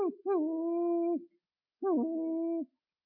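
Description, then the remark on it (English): A small chocolate-brown dog, kept in a kennel, whines in two long, high-pitched drawn-out cries separated by a short pause, clear with no other sounds around it, at about 5:36 in the morning, wanting to go outside to relieve itself. “Because we kennel him up, and so we hear that, and it's like, oh, so I don't need an alarm clock anymore, I got this little dog.”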